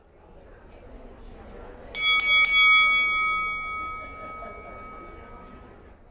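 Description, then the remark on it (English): A boxing ring bell (gong) strikes three times in quick succession, loud, then its bright metallic tone rings on and slowly fades over a low background murmur. “Yeah, that sound, the boxing gong, takes me back to the moment when my colleagues from Global Internal Communications and I first sat down together to came up with the idea for this leadership summit.”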